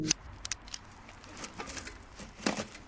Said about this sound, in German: Mein Fahrrad. Du hast gerade mein Fahrrad mit deinem Schloss angeschlossen.